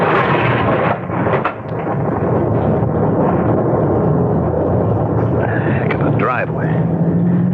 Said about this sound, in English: Gotta get a roof over my head till this downpour stops. Dangerous out here.